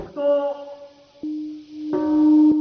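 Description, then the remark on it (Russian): The peace bell in Hiroshima, Japan, rings at 8:15 a.m. on 6 August, the 70th anniversary of the atomic bombing, with deep, sustained resonant tones, struck a few times so each long hum overlaps the next, loud with no talking. “8.15 утра 6 августа в Хиросиме зазвонил колокол мира.”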